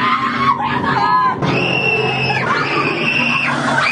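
A woman screams loudly and close by, her shrill, sustained cries rising and breaking into a few long bursts that run almost without pause.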